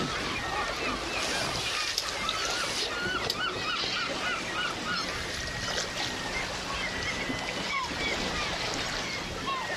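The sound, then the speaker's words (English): At sunset, a dense flock of waterbirds gathered in large floating rafts calls and squabbles continuously, honking notes and chatter overlapping as a sailing boat drifts by, over a steady wash of water and the faint creak of the boat. “As the sun set, the birds formed large floating rafts and argued with each other. And the birds complained at us as we drifted by.”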